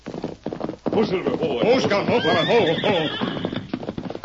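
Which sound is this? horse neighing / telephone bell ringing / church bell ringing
horse neighing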